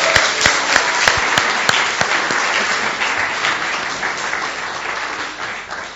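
An audience applauds steadily as a gap year student comes up to the front, dense clapping with a few sharper claps standing out early on, then gradually thinning and softening toward the end.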